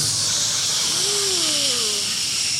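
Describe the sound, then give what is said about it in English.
A Keurig single-serve coffee maker hisses steadily with steam as it brews a pod, a continuous bright hiss with a faint low whine gliding up and back down midway through. No one speaks. “I weaponized a Keurig single-serving coffee maker.”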